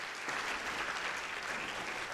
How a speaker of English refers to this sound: Let's give a round of applause for Connie.